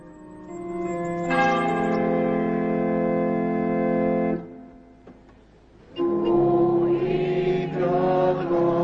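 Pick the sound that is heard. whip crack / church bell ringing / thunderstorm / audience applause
church bell ringing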